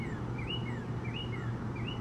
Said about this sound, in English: Sound of the birds. Looking out the window. Crow flying by. What a wonderful morning.